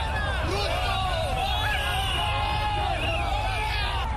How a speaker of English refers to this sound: Crowds push and shove to enter Kasarani Stadium to witness the inauguration ceremony.